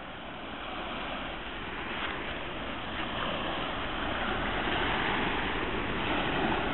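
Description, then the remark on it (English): Steady sea waves on the coast of the Adriatic Sea, at the end of summer 2007, wash and roll continuously, a broad rushing surf sound that swells slightly louder toward the end, with no voices present. “And we're back from the coast of the Adriatic Sea, and a little sun left of this end of the summer 2007.”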